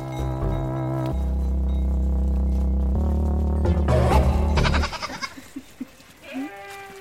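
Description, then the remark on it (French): Goats on a farm bleat loudly in long, wavering, nasal cries that run together for several seconds, then fade into a few short, scattered calls and softer sounds. “elle élève des chèvres avec son associé et c'est chez elle qu'on se retrouve à la ferme de la Jobernie.”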